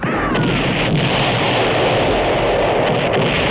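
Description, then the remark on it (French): A loud explosion of a dune buggy fills the scene with a dense, sustained roar and rumble, broken by a couple of sharp cracks, with no one speaking. “Mais, attention, ça se termine par une énorme explosion de Dune Buggy.”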